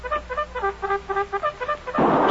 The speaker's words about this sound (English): I think I'm hearing music. Music? You bird brain clown, you. That music is a bugle, a cavalry bugle.